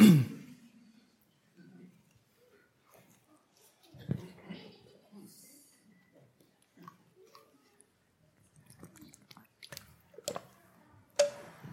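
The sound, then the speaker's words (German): Someone drinks water from a glass: soft, wet sips and swallows with small mouth clicks, quiet and intermittent, ending in a couple of sharper taps like a glass being set down. “danke fürs Wasser”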